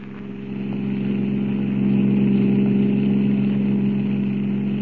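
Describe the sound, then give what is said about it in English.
A car engine drones steadily as the car speeds along a highway at 90, a loud, continuous low hum with road noise, swelling slightly in the first second and then holding even throughout with no voices. “Looks like we lost the car that was following us, Jack. Yeah, I figured we would. We're doing 90. This crate sure can travel.”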